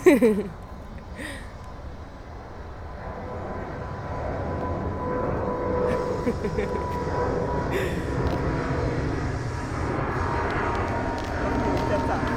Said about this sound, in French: Et un avion.